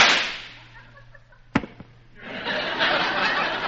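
A single sharp gunshot cracks out against a steady hiss of background noise, followed a moment later by a fainter, shorter report.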